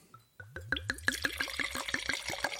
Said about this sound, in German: Soll ich schon mal was einschenken? Genau, schenk doch mal Rot ein.